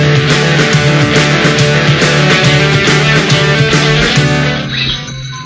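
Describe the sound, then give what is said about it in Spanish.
Bells ringing loudly and continuously as a morning wake-up call, in a dense, repeated pattern of strikes with long overlapping resonance, fading slightly at the very end. No voices. “Suenan las campanas que tocan a despertarse, bueno, a estar pendientes de lo que les contemos y de lo que les contamos.”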